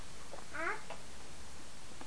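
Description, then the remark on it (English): A single short cat meow rises and falls once against a quiet, faintly hissing background, moderately loud, with no talking around it. “Listen to the cat.”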